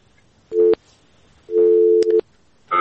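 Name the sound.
busy tone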